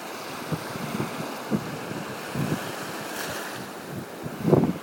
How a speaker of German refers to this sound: Ihr seid quasi direkt über dem Wasser. Ich stehe im Wasser und lasse mich von den Wellen umspülen. Heute ist Strandwetter, könnte man fast sagen.